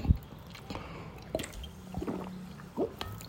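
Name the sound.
drinking water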